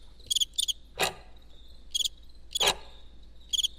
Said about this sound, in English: And then you hear some crickets.